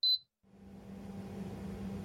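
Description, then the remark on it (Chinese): An air conditioner in a small, cold room switches on with a short high-pitched beep, then after a brief pause a steady, fairly loud mechanical hum with a low drone starts up and keeps running with no talk. “暖气居然这么凉，试试把空调打开会不会好一点。”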